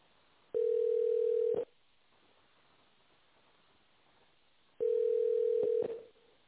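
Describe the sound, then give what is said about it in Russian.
A telephone ringback tone on a call to the company Mlight, while waiting for the secretary to answer: two steady, mid-pitched beeps about a second long, separated by a few seconds of quiet line hiss, with a thin, band-limited phone-line quality. “Если вы не знаете добавочный номер абонента, дождитесь ответа секретаря.”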